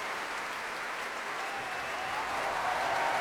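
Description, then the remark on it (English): Steady audience applause at an orchestra concert, section applause for the trombones, trumpets and timpanists, a dense wash of many hands clapping at a constant level that swells slightly toward the end, with no voices standing out. “Section applause for trombones and trumpets there.”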